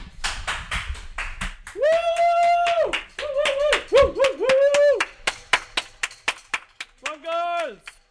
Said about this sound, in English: 8 o'clock. Oh, wait, we just have to clap for the NHS.